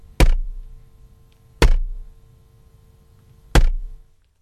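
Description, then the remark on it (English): Three heavy, dull thuds of a pak choi slammed against a desk, spaced unevenly about a second and a half to two seconds apart, each with a brief leafy rustle and quick decay. “Well, in the spirit of light entertainment, here is a pak choi being banged on the desk.”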